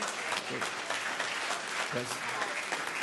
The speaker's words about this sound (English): If it's the right thing, are you clapping or you're not clapping?